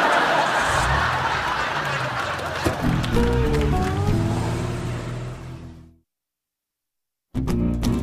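A car engine turns over and catches, its low rumble rising in pitch amid steady background noise, then it cuts out abruptly into silence before the noise briefly returns.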